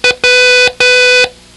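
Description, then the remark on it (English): Morse code tones for the letter W: one short beep followed by two longer ones, a steady, buzzy, fairly loud mid-pitched electronic tone rich in harmonics, with brief gaps between and no voices. “It's a short followed by two longs.”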